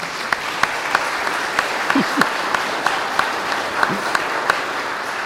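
An audience applauds steadily, a dense wash of many hands clapping with sharper individual claps popping out in an irregular rhythm, a few brief voices calling out underneath.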